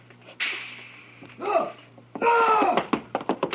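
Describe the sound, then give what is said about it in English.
A rush of noise and sharp cries, then a flurry of hard knocks and thuds as a door bangs open and shut while someone escapes out through it, fairly loud, with a steady low hum beneath. “He made it out the door.”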